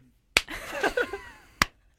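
Two sharp, loud hand slaps, one person slapping another, land about a second apart, with a short pained vocal noise in between.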